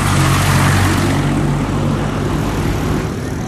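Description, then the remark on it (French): A heavy truck rumbles loudly, its deep droning engine steady with a broad roar, easing off slightly toward the end as it moves past. “Il y a l'énorme camion.”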